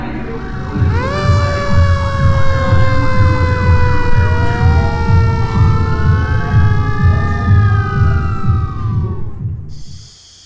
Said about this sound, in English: Thanks for listening to the news, and we'll be right back after this fire engine sound.